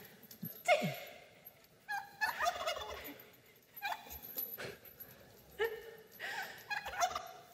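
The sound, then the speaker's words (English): A turkey gobbles in several rattling bursts spread over a few seconds, moderately loud, with brief pauses between calls and some outdoor background noise. “Watch for the turkey. There it is.”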